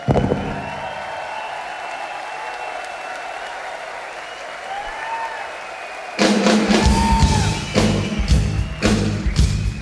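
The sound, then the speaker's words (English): A crowd murmurs with a few whistles, then about six seconds in a loud burst of audience applause and cheering breaks out, dense and crackling with sharp claps, continuing to the end. “Time to give you a round of applause.”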